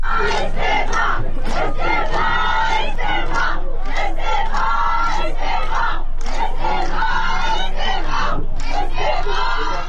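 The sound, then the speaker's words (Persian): A large crowd of residents protesting outside the Tabriz municipality building against the killing of stray dogs by municipal forces chants slogans in unison demanding the Tabriz mayor's resignation, loud and rhythmic, with repeated shouted phrases rising and falling in steady bursts across the whole stretch. “معترضان در این اجتماع با دادن شعارهایی خواستار استعفای شهردار تبریز شدند.”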